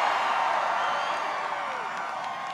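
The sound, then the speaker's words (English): A large crowd at an outdoor Donald Trump rally at Omaha's Epley Airfield roars and cheers in a steady, dense wash of voices that holds at a loud, even level for the whole stretch, with no single voice standing out. “and immediately remarked on the enthusiastic crowd on hand to greet him at the outdoor rally at Omaha's Epley Airfield.”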